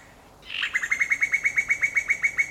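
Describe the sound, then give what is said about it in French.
A rapid bubbling call from a female common cuckoo, about fifteen quick, even-paced liquid notes in a steady run, clear with no voices. “c'est une femelle, c'est le gloussement de la femelle qu'on peut entendre et que personne ne reconnaît”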